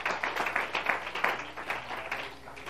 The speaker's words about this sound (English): Can somebody clap unto the Lord tonight?